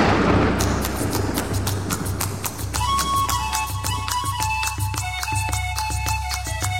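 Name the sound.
horse hooves clip-clopping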